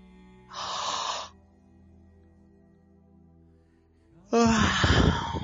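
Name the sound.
yawn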